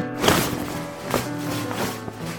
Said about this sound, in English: But then he thought he heard footsteps heading towards his tent. It was the middle of the night. Who could be out walking? Closer and closer the footsteps came.